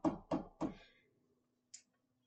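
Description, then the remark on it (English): Three loud, heavy bangs on a door in quick, even succession, each ringing out briefly, followed by a short faint high-pitched tap a moment later. No one speaks. “comes on the motorcycle and like, is like, and beats on the door.”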